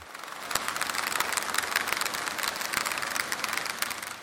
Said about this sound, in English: And it's actually the propeller of a ferry passing.